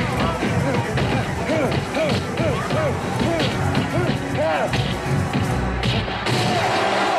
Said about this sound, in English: Now, this is, of course, the part here. I just want to play the sound a little bit of the flurry of punches Rocky lands.